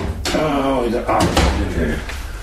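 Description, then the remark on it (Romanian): The heavy but not very large door of a safe holding documents is pulled open, with a couple of dull clunks and scraping metal under a man's speaking voice, fairly loud. “Am actele aici, în casa de bani. O clipă. Ce ușă grea, deși nu e prea mare.”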